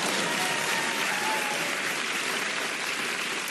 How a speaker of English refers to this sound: There's so much talk, you can applaud. Sure.